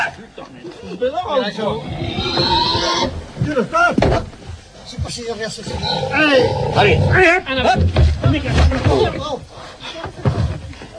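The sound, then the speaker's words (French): A pig being held down squeals loudly and almost nonstop, shrill rising cries coming close together, with five or six men talking and shuffling around it in the snow, a bucket placed under its head. “Sous la tête du cochon.”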